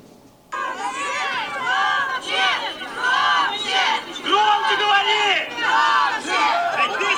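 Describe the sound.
A large protest crowd in the city of Orsk, Russia, shouts and chants together, many voices rising and falling in rough rhythmic waves, loud and continuous after a sudden start.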